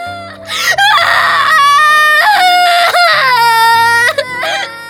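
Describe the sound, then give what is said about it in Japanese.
A person wails and sobs loudly, long drawn-out crying cries with rising and falling pitch, barely pausing for breath across several seconds. “ちょっと泣くのはやめなさい。”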